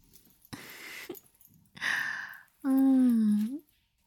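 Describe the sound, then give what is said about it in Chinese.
A person imitates a puppy's whimper to plead for help like a puppy: breathy huffs and a short gasp, then one drawn-out, nasal whining tone about a second long, fairly loud, with no talking. “对，要像小狗狗一样发出呜呜的声音，来求救我。”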